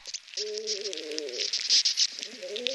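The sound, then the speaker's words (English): Bark beetles inside pinyon trees around Santa Fe during a massive pinyon die-off, recorded by sound artist David Dunn: a dense, steady layer of dry crackling and scratchy clicks, overlaid by wavering, squeaky tonal chirps that come and go. “People have told David Dunn they've used his bark beetle soundtrack to accompany dance performances and even chiropractic treatments.”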